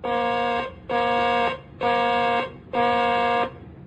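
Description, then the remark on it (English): An aircraft carrier's harsh electronic flight deck warning alarm, sounded as a test, blares in four long, evenly spaced blasts, each a steady buzzing tone lasting about half a second with short gaps between, loud with no voices. “Ready on the warning alarm. Testing flight deck warning alarm.”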